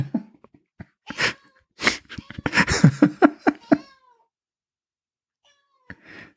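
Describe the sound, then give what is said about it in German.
A house cat meows insistently, a string of complaining, drawn-out cries and short chirps over a few seconds, then goes quiet before one last soft sound. “oh, sorry, meine Katze oder eine unserer Katzen ist hier gerade am Meckern, ja.”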